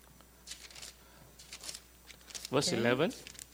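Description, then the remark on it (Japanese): Several quick, soft papery flicks of thin Bible pages being turned to find Romans chapter 5, fairly quiet, followed by a short burst of someone speaking. “Just open the Bible.”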